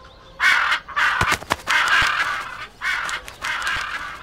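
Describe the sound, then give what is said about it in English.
Birds at a zoo calling loudly, a series of about four long, harsh, raspy caws with brief sharp clicks between them, and no one speaking. “We live next to the birds. They always wake up early.”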